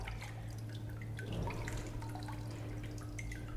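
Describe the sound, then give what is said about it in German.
A steady suction hiss over a low mechanical hum as a vacuum draws water from a freshly formed sheet of handmade paper on its frame, with scattered drips and trickles and a brief surge of gurgling midway. “Und dann entsteht hier ein Vakuum. Das entzieht wahnsinnig viel Wasser.”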